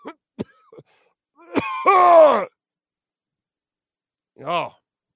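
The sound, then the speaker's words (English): Exaggerated throat clearing: a few short clicks, then a loud, drawn-out gravelly rasp that trails off, followed after a pause by one shorter throaty burst. “Oh, excuse me while I clear my throat here.”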